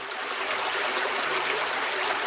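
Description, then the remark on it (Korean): A steady, clear stream of flowing water rushes and babbles continuously, fairly loud, with no voices or other sounds, heard going down the wooden stairs of a walking path near Maokong, close to the Patol suspension bridge over a valley. “보행로의 나무 계단을 따라 내려가다 보면 청량한 물소리가 들리고 머지않아 파톨 구름다리가 나옵니다.”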